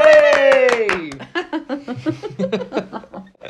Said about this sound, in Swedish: Ja, så att, tack så jättemycket för den feedbacken. Verkligen. En stor applåd för den feedbacken.